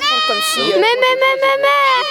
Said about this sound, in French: Mais tu vas bien, la chèvre? Elle fait quoi à son dos, là?